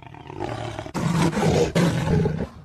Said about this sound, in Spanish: Oh, nuestro amigo jaguar. Sí, efectivamente tú también eres una de estas especies amenazadas.